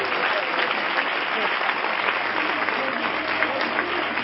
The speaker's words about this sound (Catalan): penso que es pot demanar un aplaudiment per tots els membres i representants del Pobillatge que hi ha aquí. Si us plau, s'ho mereixen.